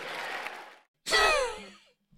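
Billionaires seated behind Donald Trump clap during his speech after his line about a merit-based society, a steady, crackling burst that stops abruptly after under a second, followed by a loud, sweeping vocal cry or whoop that fades out.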